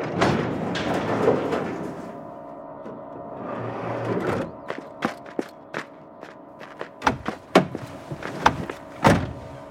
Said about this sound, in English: I'll get the door open. We have to lift it in.